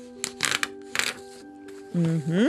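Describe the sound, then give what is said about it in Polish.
Crisp, crackling rips of a stiff black sheet of paper being torn from a technical drawing pad in a few quick bursts, followed by a short voice at the end. “Z bloku technicznego wyrwijcie czarną, sztywną kartkę.”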